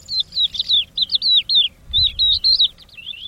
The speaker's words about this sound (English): And while none of that sounds very cuddly, it could well help birds such as the crested lark.